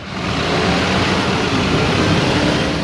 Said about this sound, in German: Doch außerhalb des gebührenpflichtigen Bereichs in Mailand ist der Autoverkehr gewohnt hektisch.